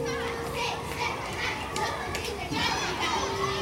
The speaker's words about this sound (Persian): بچه ها با جیغ و داد دویدند توی حیاط.